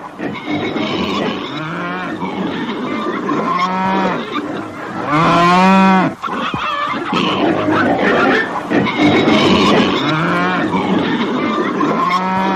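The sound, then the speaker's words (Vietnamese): Several cows moo on a pasture in overlapping, drawn-out calls, one loud bellow rising above the rest midway, with a steady outdoor background and no talking. “Bò, ngựa, cừu được thả trên các đồng cỏ.”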